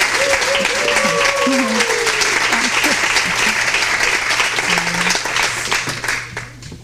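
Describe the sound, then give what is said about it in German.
An audience applauds steadily, a dense wash of many hands clapping at once that holds loud for several seconds before tapering off, with faint voices murmuring underneath, as the project's leader is called up to the podium. “Applaus bitte für die Leiterin des Projekts.”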